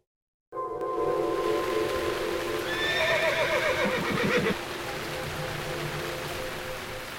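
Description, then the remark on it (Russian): A horse gives a loud, shrill whinny that rises and wavers for a couple of seconds, with the steady clip-clop of hooves as Arminius's horsemen ride at a walk behind a wagon in the rain, and a constant rushing background noise underneath. “Впереди шествуют легионеры Валтумия, позади шагом едут всадники Армения.”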